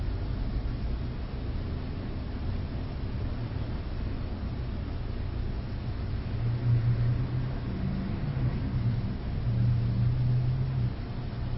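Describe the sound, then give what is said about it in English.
Steady low traffic rumble from outside, with a couple of cars swelling slightly louder as they pass by. No one speaks. “The functioning of us, including the cars passing by, that's nothing but our life at the moment passing by.”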